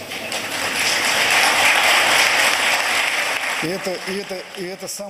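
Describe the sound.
Sustained audience applause for former reform politician German Greff, a dense wash of clapping that holds steady for a few seconds, then a man's voice begins speaking as the clapping fades underneath.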